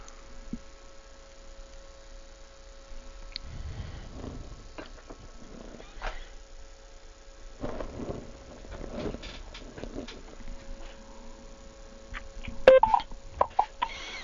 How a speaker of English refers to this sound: And I hear the phone line beeping and on and off. Don't know if we've still got everybody there.